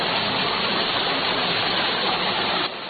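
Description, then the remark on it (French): River water pours steadily over an irrigation dam on the Tissenso River, a dilapidated dam meant to carry water to a market-garden site, a loud, continuous rushing roar, easing slightly at the very end, with no voices. “Corriger ce barrage pour amener l'eau dans le site maraîcher.”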